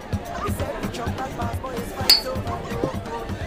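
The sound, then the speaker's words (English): A single bright clink of glasses touching in a toast over drinks, sharp with a brief ringing tone, rising over a steady murmur of background chatter and voices. “Cheers, fellas.”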